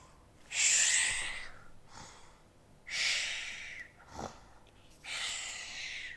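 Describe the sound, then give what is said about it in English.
A voice imitates Mrs. Bear snoring, in a reading of Jill Murphy's book Peace at Last, with three loud, rasping, breathy snorts spaced about two seconds apart, each drawn out for about a second, with quiet pauses between them and no talking. “Mrs. Bear began to snore.”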